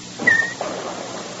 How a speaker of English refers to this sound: I merely wanted to turn off the water in the bathtub. I don't hear any water.